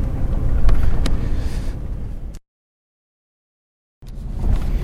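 Steady low rumble of a car rolling slowly along as it moves out of a traffic jam, with a faint wind-like hiss, cut by about a second and a half of silence midway before resuming.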